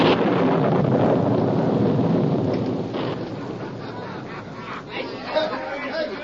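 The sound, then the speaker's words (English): A loud, rumbling roll of thunder over rushing wind on a stormy night fills the first seconds, then eases into a steady stormy wash, with indistinct murmuring voices faintly underneath. “It was cracked, dim, and faded by many days and nights as stormy and evil as this one.”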